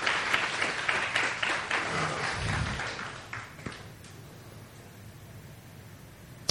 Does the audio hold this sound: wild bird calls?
no